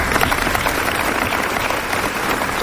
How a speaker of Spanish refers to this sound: Un minuto de silencio y aplausos esta mañana en esta localidad para condenar este asesinato.